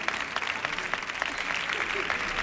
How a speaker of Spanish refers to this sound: ¡Sí! Por favor, un gran aplauso.